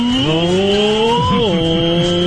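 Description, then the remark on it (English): Paul McCartney's motorcycle engine revs loud, its pitch climbing in steps as it shifts up through the gears, then dropping back before holding a steady roar. “Oh, Paul McCartney motorcycle. Boy, that's a lot of gears.”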